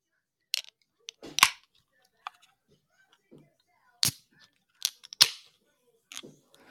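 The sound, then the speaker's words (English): A drink container is cracked open: a series of sharp, crisp clicks and snaps, with one louder burst partway through, separated by short quiet gaps and no talking. “I haven't actually cracked it open yet.”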